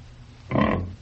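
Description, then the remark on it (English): A single fairly loud pig grunt lasting about half a second, rough and throaty, over a steady low background hum with no talking. “I'm going to see to my pig.”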